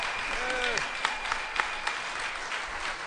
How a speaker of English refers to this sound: Big round of applause. Very nice. Thank you very much. Very nice. Let's hear it.